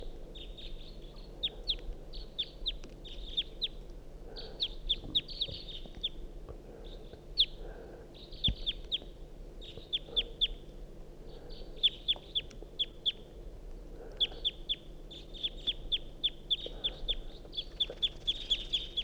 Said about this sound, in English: Wild bird, stop. Start recording the same wild bird.